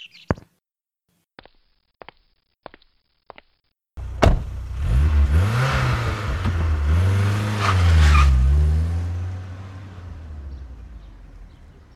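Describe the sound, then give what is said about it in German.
A few sharp clicks, then the criminals' getaway car engine roars to life and revs hard, tires squealing and skidding as it tears away loudly, no voices. “Zurück im Auto der Verbrecherinnen.”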